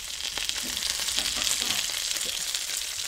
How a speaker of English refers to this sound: So the sound of the sizzle is completely different. Like the quality is because yeah. now it's just fat. There's no water left. Yeah. And that's just oil.